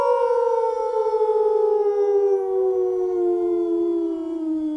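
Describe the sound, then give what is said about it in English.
Several voices join in one long, sustained wolf-like group howl to celebrate, holding steady and then slowly sliding downward in pitch over about five seconds, loud, with no talking. “Do you want everyone to howl, or do you just want to howl on your own?”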